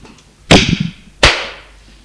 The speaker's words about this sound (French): Il la gifle.